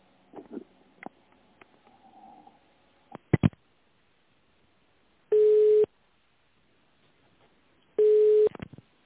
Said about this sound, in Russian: Сейчас попробую. Телефон.